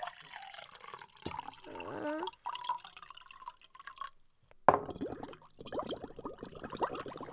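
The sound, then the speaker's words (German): Water gurgles and bubbles as it is poured into a glass, with a stretch of wobbly bubbling early on and a splashy, steady pour after a brief pause, fairly quiet. “Da muss ich kurz einschenken.”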